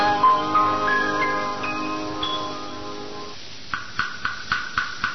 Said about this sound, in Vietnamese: Chú Tiểu à, do đâu mà có tiếng chuông mỏ của công chúa nhịp đều nghe buồn thảm quá vậy chú Tiểu? Mô Phật thương, công chúa đang cầu nguyện cho linh hồn vua cha được siêu thoát.